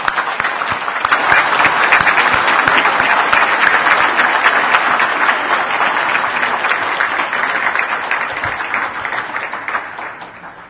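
A church audience breaks into warm, sustained applause to welcome a pastor, many hands clapping steadily for about ten seconds before it begins to taper off.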